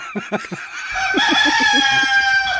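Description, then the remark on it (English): A harnessed rooster, brought by a passenger trying to board a domestic flight as an emotional support animal, lets out a few short, sharp clucks, then launches into a long, loud, strained crow that carries to the end, with no one talking. “a passenger attempting to board a domestic flight with what she described as an emotional support rooster.”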